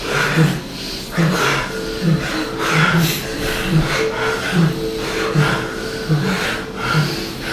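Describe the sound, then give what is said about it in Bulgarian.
Quick, steady breathing in a guided breathing exercise, with air drawn in through the nose and pushed out through the mouth in an even, repeating rhythm of soft, breathy, slightly snorting pulses. “Вдишване през носа, издишване през устата, дишане.”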